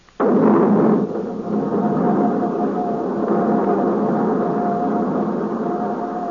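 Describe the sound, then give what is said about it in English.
The right jet engine of aircraft RJX1 is started before takeoff, firing up with a sudden loud burst, then settling into a steady, heavy roar with a thin, high whine running through it for several seconds. “Starting right jet.”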